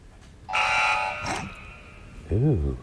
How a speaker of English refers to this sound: Mario Death. That is the death sound from Super Mario Brothers.